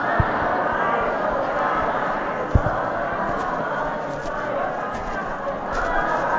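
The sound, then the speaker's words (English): A dense, steady murmur of many voices fills the whole stretch, a crowd gathered to see Jesus chattering all at once and growing larger and louder, with a couple of brief thumps breaking through around the middle. “The crowd behind me appears to be getting larger and louder as we speak.”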